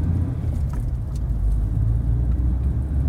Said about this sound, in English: Okay. Can I start the car now? Yes. It's clear. Off you go.